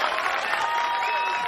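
A crowd claps steadily, a dense, even wash of many hands with no pauses, joined by a faint tonal hum underneath, at moderate loudness throughout.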